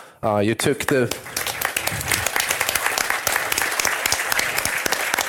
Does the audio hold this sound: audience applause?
yes